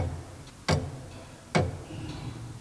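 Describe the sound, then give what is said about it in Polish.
Slow, heavy mechanical ticks from a 1931 tower clock mechanism made by a factory in Krosno, Poland, two loud sharp clacks roughly a second apart with another starting at the end, over a low rumbling hum and no talking. “Zegar wieżowy z fabryki Michała Mięsowicza w Krośnie z 1931 roku.”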